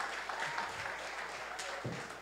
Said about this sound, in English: Give him a big round of applause for giving you that illustration.